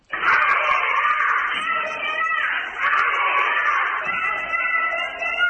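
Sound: children cheering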